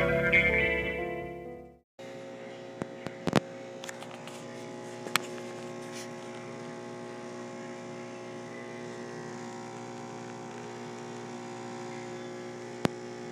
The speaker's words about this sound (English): Ladies and gentlemen, what you just heard was the sound of a very high-tech espresso machine found here at this particular hotel. I think where we're at is called the Court of Ale.